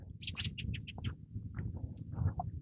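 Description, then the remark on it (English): A robin perched at the top of a tree chirps in a quick run of sharp, repeated cheeps, then a few scattered calls, heard outdoors over a steady low rumble of background noise. “That robin sitting up in the top of the tree going cheep cheep cheep cheep cheep cheep cheep cheep cheep.”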